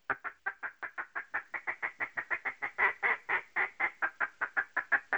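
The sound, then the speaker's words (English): A rapid, steady string of raspy duck feed-call quacks blown on a duck game call, around two dozen short notes in about five seconds, loud, with no talking. “Now then I'll go to like a feed call, which I go Revelation 3:20.”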